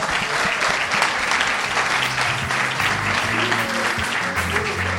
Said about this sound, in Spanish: Un fuerte aplauso para la madre.